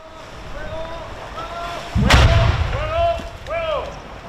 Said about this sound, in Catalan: L'artefacte ha estat desactivat a les 12 del migdia per la unitat de busseig de l'Armada Espanyola que l'ha fet explosionar dins l'aigua, a pocs metres de la vorera on s'ha pogut veure i sentir aquesta explosió.